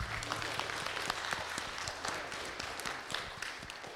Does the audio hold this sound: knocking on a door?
no